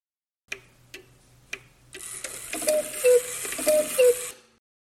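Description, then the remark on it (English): Three crisp, evenly spaced clock ticks, then a dense whirring, rattling clockwork clatter from many cuckoo clocks in a museum, with two-note cuckoo calls sounding twice over it, fairly loud, fading out at the end. “Welcome to the world of cuckoo clocks. What a beautiful chorus!”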